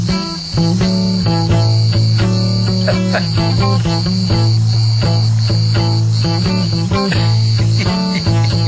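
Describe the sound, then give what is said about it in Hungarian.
A steady, high-pitched cicada buzz runs throughout, loud, layered over low sustained tones and a pattern of rhythmic, pulsing notes in the key of A, with no voices. “Hallgassuk meg A-kabócát.”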